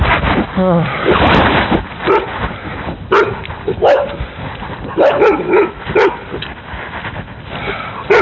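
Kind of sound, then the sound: animal, puppy barking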